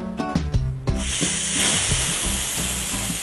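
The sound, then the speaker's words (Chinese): An electric pressure cooker releases steam in a loud, steady hiss as the pressure is let out after about an hour of cooking rice dumplings (zongzi); the hiss starts abruptly after a brief moment and continues to the end, with faint music playing underneath. “好了，时间到，我们卸压开锅。”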